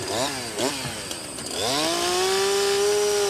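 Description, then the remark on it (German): A chainsaw engine blips twice in quick revs, then climbs to a steady, high-pitched full-throttle whine, loud, with no voices, as a man cuts the horn off a tranquilized, restrained rhinoceros to protect it from poachers. “Wir jagen sie, betäuben sie, fixieren sie und dann kommt der Mann mit der Kettensäge.”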